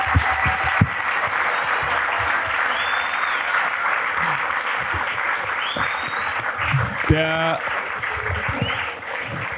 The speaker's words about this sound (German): Also vielen, vielen Dank fürs Kommen erstmal. Wir machen jetzt noch die Auslosung, aber ich glaube, es gibt nochmal einen fetten Applaus für die zwei Mädels und für den Film.